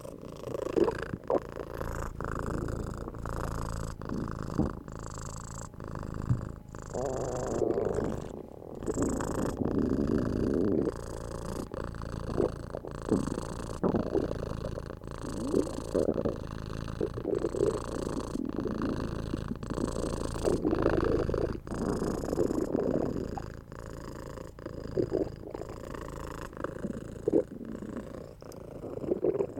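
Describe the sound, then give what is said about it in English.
A female cat purrs steadily for the whole stretch, a continuous low rumbling drone with a rhythmic pulse, no voices over it. “Looks like she wants to be massaged too. Such a good kitty.”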